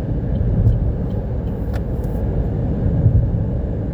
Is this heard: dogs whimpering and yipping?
no